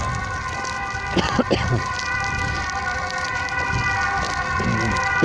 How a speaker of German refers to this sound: Ja. Feuerwehr ist hier unterwegs, Tatütata.